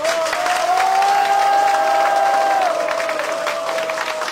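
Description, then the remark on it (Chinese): An audience at a training talk claps in encouragement, steadily and loudly for about four seconds, a dense crackling wash of many hands, with a sustained musical tone gliding underneath the applause. “好， 你掌声鼓励一下。”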